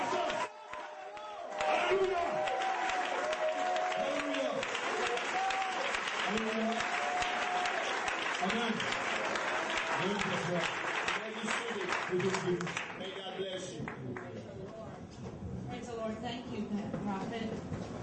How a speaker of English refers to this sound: You have heard this testimony. Amen. You're going to rise up. And you're going to clap.